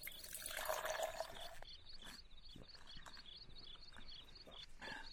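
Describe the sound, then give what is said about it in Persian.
Water pours steadily for about a second and a half as it is served to someone to drink, then gives way to quieter, faint swallowing or dripping sounds over a soft, continuous insect-like chirr in the background. “بفرما، این هم آب، آبم آب گوارا، بنوش.”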